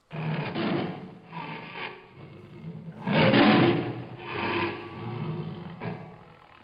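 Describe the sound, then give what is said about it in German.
A lion roars in a series of deep, raspy, rumbling bursts, loud, rising and falling over several seconds with short breaths between them and no talking. “Und die wenigsten können sich vorstellen, wie sich ein Löwe anklingt.”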